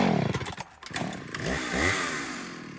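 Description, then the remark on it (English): A chainsaw roars, its engine revving up and down in pitch over a few seconds with a buzzing, rattling drone and no voices. “So I went and got what I thought would be the final solution, a chainsaw.”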